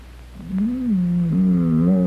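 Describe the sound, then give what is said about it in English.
Lassie, a female dog, growls low and steadily, one continuous rumbling snarl that swells after a brief moment and holds for over a second, fairly loud, with no one speaking. “Growled at me.”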